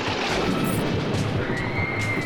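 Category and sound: animal, horses approaching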